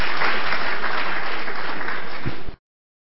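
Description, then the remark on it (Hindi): An audience applauds steadily to welcome Dadi ji, a dense wash of many hands clapping together at full volume for about two and a half seconds before cutting off abruptly. “सभी दिल वाले दादी जी का एक बार सभी ताली बजा करके स्वागत करेंगे।”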